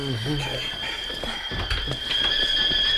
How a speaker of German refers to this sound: Der Wasserkessel pfeift. Ich kümmere mich darum, Mutter.